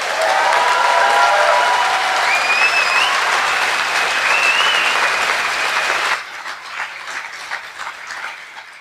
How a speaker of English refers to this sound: There is the power team, who've worked really hard when we suddenly didn't have enough power cables. So can we have a round of applause for the power team?